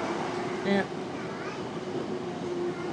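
train running

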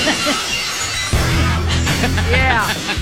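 glass shattering sound effect

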